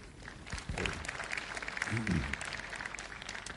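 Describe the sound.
A crowd claps steadily in a dense, crackling wash of applause lasting a few seconds, welcoming a presenter to a session on the new features of ASP.NET 4.0, with a brief voice murmuring underneath partway through.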